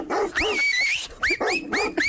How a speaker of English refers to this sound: I can definitely hear something barking.